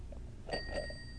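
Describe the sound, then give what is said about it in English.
A short, bright telephone ring chimes once about halfway through, a thin bell-like electronic tone that is fairly quiet against a soft background hum, with no talking. “Answer the phone.”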